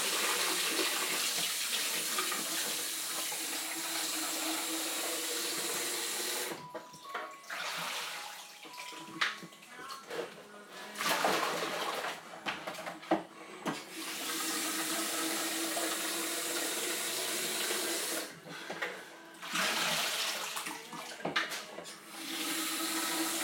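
A tap runs steadily as a cup is rinsed beneath it, the broad hiss of water broken by several brief interruptions and splashy changes as the cup moves under the stream, with no talking.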